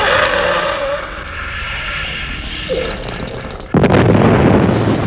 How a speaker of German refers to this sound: Sie explodiert!